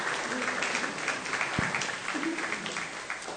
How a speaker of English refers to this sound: Shall we give the children a round of applause for helping us set the scene today?